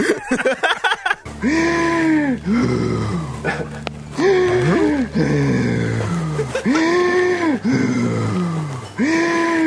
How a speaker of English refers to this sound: Haven't you been to those yoga classes where you make the noise when you breathe?